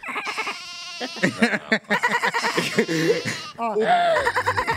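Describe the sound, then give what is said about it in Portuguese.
A toy goat lets out a wavering, nasal bleat, then another shorter one, fairly loud, with people talking and laughing over and around it. “Ó, ele faz um barulhinho, ó.”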